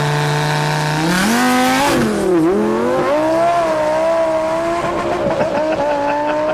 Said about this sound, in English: What is this here? Oh, that's my Lamborghini. Damn. It's a twin turbo. Look at that fucking thing. Which model is that? A Huracan. Jesus Christ, that's a good looking car.